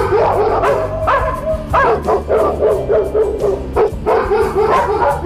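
Two dogs bark loudly in a rapid, continuous run of sharp barks and yips, with a few whimpering notes mixed in and no one talking.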